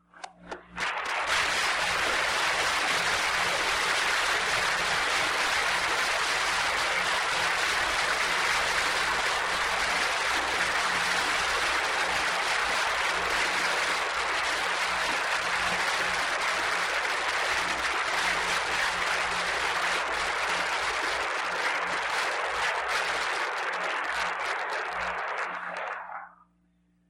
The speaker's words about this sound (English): But I do want to express publicly my gratitude to him from all of you, and may I ask you to join me in that gratitude by rising and applauding, and then I will dismiss us with a benediction.